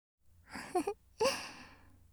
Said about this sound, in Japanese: おっきなあくびだね、パパ。もう寝ちゃう？